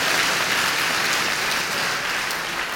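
A crowd claps steadily, a dense, even wash of many hands at a fairly loud level that holds throughout with no voices on top.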